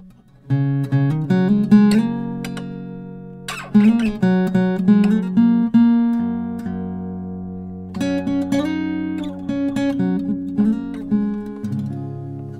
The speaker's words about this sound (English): And I need to tune the guitar. Take your time. I mean, if I was quicker at tuning, you're killing me knocking that guitar in. You're killing me. I'm not knocking it. You're hearing it too loudly.